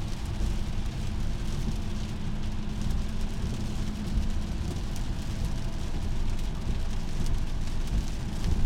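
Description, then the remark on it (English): Heavy sideways rain with big fat drops pours down in Tennessee in a steady, dense roar, with a deep rumbling low end and no pauses. It is loud throughout, and no one speaks. “I don't know if I'm gonna film the whole time, but I'm just hoping it doesn't pick up this rain super loud like it sounds to me right now.”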